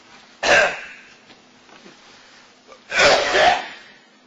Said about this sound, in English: Excuse me, I'm going into coughing fits just thinking about it. Can you grab me a cup of water?